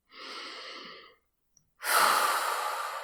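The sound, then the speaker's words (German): A deep, audible breath: a steady inhale lasting about a second, a brief pause, then a louder, rushing exhale. It is breathy, with no talking. “Erst einmal tief durchatmen.”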